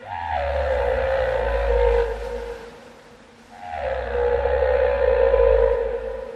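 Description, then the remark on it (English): Two long, deep calls from Migaloo the whale, recorded by Mark Franklin of the Oceania Project, each lasting about two seconds with a low rumbling base and a moaning, drawn-out tone above it, separated by a brief lull; loud, with no talking. “That's Migaloo, recorded by Mark Franklin of the Oceania Project”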